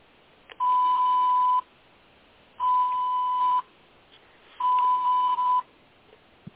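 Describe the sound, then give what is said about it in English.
Three loud electronic beeps, each about a second long with a steady pitch, repeating at even two-second intervals against a quiet background. “Sorry, I've got a beeping going on.”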